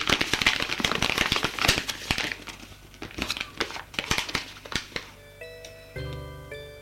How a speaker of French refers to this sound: Il trouve dans la poche de sa veste un papier froissé. Il défroisse pour voir ce qu'il y a d'écrit dessus.